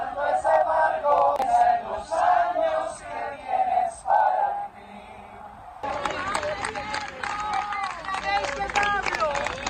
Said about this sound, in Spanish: Pero mira lo que hemos encontrado también nosotros, cómo la gente gritaba esto en su funeral.